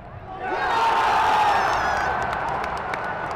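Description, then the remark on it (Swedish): A big stadium crowd of over 31,000 roars and cheers in an arena during a high-scoring match, the noise swelling within the first second and staying loud and dense, with scattered claps and shouts rising out of the steady wash of sound. “Inne på arenan var stämningen på topp med över 31 000 i publiken och det blev en målrik match.”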